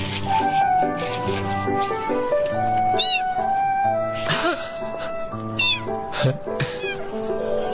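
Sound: cat meowing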